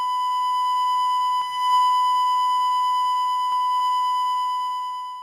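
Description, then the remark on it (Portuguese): A hospital monitor sounds one steady, unbroken electronic tone, like a flatline alarm. It holds at an even, moderately loud level for about five seconds with no talking. “E, ao som e os toques do bip de um hospital, o silêncio começa.”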